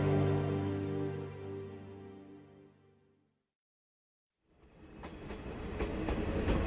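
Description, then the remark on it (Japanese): A train bound for Takasaki, from the Ashikaga and Maebashi direction, pulls into a station in snow: a low, humming drone fades away, a brief silence follows, then the rumbling clatter of rolling wheels rises and grows steadily louder. “足利前橋方面高崎行き列車到着いたします。”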